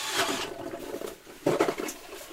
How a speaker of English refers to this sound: This is just the Strike Master Mora. It's a hand auger, and it has a drill adapter on it, so you can put a hand drill on it instead of a gas auger. It works pretty well.